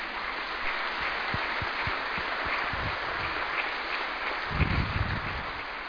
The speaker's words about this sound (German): Wir freuen uns, dass Sie heute mit uns diesen Gottesdienst feiern. Dürfen wir ruhig mal klatschen, ne?